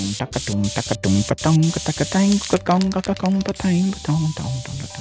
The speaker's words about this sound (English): I'm spraying right along. And that's looking super fancy. Spraying right along. Please mind all those streaks.